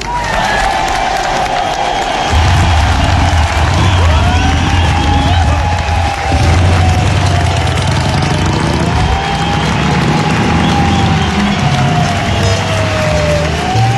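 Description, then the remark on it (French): A large crowd at the second European Social Forum claps and cheers steadily for the whole stretch, a dense, loud wash of applause with whistles and shouts rising over it and no pause, applauding themselves after a speaker hails more than 100,000 people who resisted six weeks of a smear and repression campaign. “Je vous propose de nous applaudir.”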